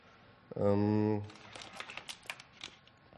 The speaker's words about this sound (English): Now I can happily type on my keyboard, and I'll show you the internal directory.